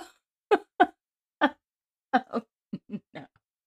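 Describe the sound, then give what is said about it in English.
A quick series of short, croaky burps right up close to the microphone, about eight loud bursts with brief pauses between them and no talking, made as a greeting at the start of a call. “like we will each burp before we start.”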